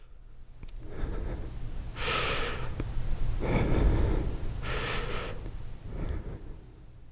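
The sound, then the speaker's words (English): A person imitates the very light, shallow breaths taken after a breathing tube is removed, when breathing hurts: a series of soft airy inhales and exhales in an uneven rhythm, with no words spoken. “So when you first get out of the breathing tube, because it hurts to breathe, you try to make very light breaths.”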